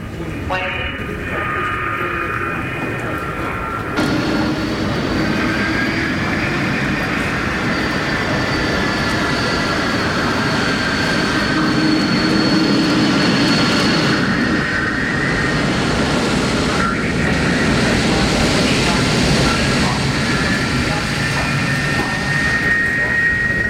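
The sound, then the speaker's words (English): An airplane drones steadily throughout, a loud, continuous engine roar with a faint high whine running over it. Muffled voices seem to murmur beneath the noise. “But look, it's an airplane.”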